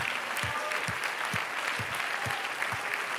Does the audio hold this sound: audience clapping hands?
yes